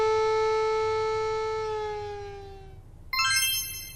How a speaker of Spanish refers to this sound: Lo voy a despertar. Activaré la alarma de mi celu en su oreja.